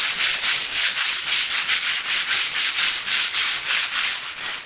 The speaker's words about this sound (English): Workmen are sanding down and repainting the walls at the Imam al-Jawad Secondary School in southern Baghdad.